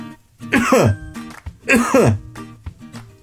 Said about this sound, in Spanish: Cuando estaba en la mitad del árbol, empezó a toser muy fuerte.